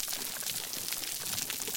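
Snapping shrimp crackling: a dense, steady wash of tiny sharp clicks and pops, bright and hissy like static, continuing without pause and with no voices.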